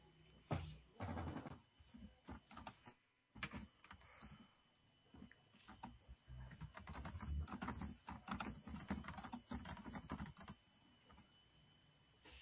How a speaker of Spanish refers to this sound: Se escucha el teclado. Sí, ahí lo estamos escuchando, escribe, el ruido como de... O es la voz del padre.